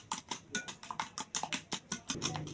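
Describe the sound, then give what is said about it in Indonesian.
Two eggs and five spoonfuls of granulated sugar being whisked in a bowl to dissolve the sugar, for pukis batter: a quick, steady run of bright metallic clinks, roughly five strokes a second, with no voices. “Lalu ini kita kocok dulu biar gulanya larut ya sama telur.”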